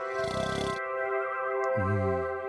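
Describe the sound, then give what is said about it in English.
A person imitates an elephant's snore with a single rough, rasping snort that fades out, followed by a low, groaning hum, all over a soft, steady musical drone. “Maybe I'll let out a little elephant snore.”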